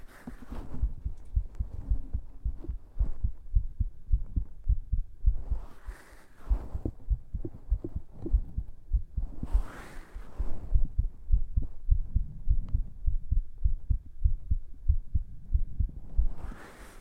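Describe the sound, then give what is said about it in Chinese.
A muffled human heartbeat, heard up close, thumps steadily and continuously as someone listens to a man's heartbeat to check whether it is racing. A low rhythmic pulse, not very fast, with a few soft breathy swells or rustles rising over it now and then. “我要听听哥哥的心跳是不是扑通扑通扑通扑通扑通扑通，跳得可快了。”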